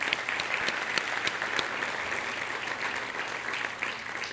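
A round of applause from a crowd for the event's sponsors, dense steady clapping with sharp individual claps popping out, sustained at an even level for several seconds without any voices.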